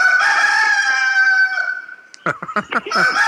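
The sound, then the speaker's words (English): A rooster lets out a loud, long drawn-out crow that fades off before a quick series of short, choppy clucks. No one speaks. “He's a rooster.”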